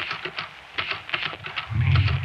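Typewriter keys clack in a quick, uneven run of crisp strikes, joined near the end by a low rumbling hum underneath.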